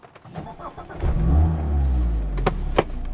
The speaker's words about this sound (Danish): Men nu skal I høre, hvordan det lyder, når jeg starter motoren op, for sidste gang i hvert fald, forventer jeg,